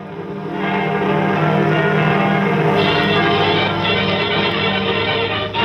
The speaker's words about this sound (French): Ouvrez les cloches. Les cloches. Nous entendons les cloches de notre quartier.